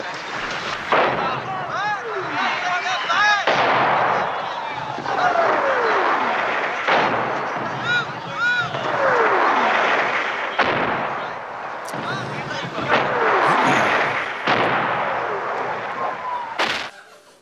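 Repeated sharp gunshots and heavy artillery booms crack out at irregular intervals over a constant roar of battle noise, with high whistling tones sliding downward between the blasts.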